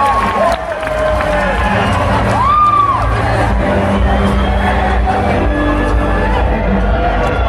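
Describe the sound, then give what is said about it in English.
A large crowd in New Orleans cheers and claps steadily in a big round of applause for Steve Gleason, a dense roar, with a loud whoop rising and falling above the noise partway through. “Please give a big round of applause.”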